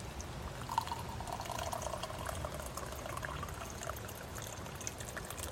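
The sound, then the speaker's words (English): Tea pours steadily from a pot lifted off a wood-fired stove into a cup for several seconds, a continuous trickling splash with a faint rising ring as it fills, set against soft outdoor background noise. “Let's pour our tea and have a look.”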